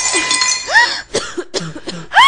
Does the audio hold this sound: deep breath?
no